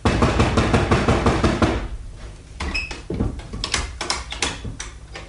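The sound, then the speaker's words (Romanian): Repeated knocking on a wooden door on a deserted street under scorching sun, a rapid insistent burst of raps followed by slower, scattered knocks, fairly loud with no voices; no one answers. “Nu răspunde nimeni. Insistă.”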